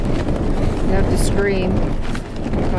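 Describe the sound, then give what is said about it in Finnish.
Strong wind roars and buffets at a camp on the slopes of the world's highest mountain, with gusts clearly over 20 metres per second. A loud, steady rumble throughout, with faint muffled voices or flapping sounds briefly breaking through. “Leirissä tuuli ja kovaa. Tuulenpuskat oli selkeästi yli 20 metriä sekunnissa.”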